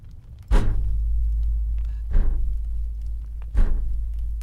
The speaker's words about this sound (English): That was thump, thump, thump with the table, but...